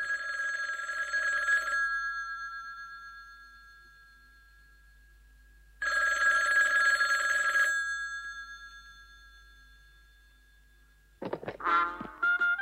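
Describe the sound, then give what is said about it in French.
A telephone call to a young actress rings twice in long, bright electronic bursts separated by a pause, followed by a short burst of warbling, chirping electronic tones as an answering machine kicks in. “Αυτόματος τηλεφωνητής. Κλήσει σε νεαρή ηθοποιό.”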